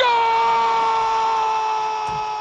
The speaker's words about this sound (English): This is what a typical soccer commentary sounds like. Frantic narrators dribbling words against the oceanic backdrop of screaming fans, and then the climactic release of a goal.